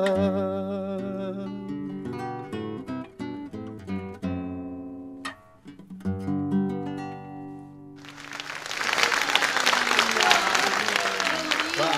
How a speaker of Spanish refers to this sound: Aplauso.